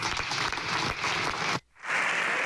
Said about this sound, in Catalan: Aquesta ha estat la contundència de Héctor Palencia, que estan aplaudint encara des de la bancada del Partit Popular i encara podem escoltar.